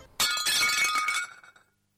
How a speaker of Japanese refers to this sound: 出勤前の午前8時、妻がお皿を割った。